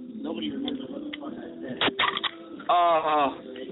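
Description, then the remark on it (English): A sponsor's Tropical Explosion drink can is cracked open with a phone held up to it: a sharp snap and a quick burst of crackling pops, followed by a loud vocal exclamation, over low background murmur. “Okay, I'm going to put my phone up to the can. You can hear it.”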